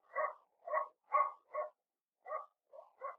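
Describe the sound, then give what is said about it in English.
A dog barks seven times at night in a steady rhythm, with one short pause partway through, down at the other end of town. The barks sound muffled and fairly faint, with no talking. “Down in the other end of town, a dog was barking.”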